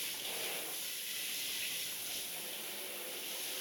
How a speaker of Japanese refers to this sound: お湯加減大丈夫ですか？胸や足に、腕にも順番にシャワーのお湯をかけていきますね。